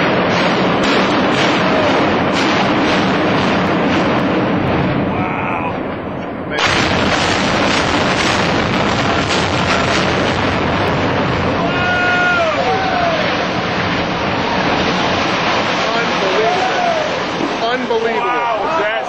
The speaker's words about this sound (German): Ich hatte gestern ein Video gepostet, auf dem zu sehen ist, wie ein Hochhaus gesprengt wird.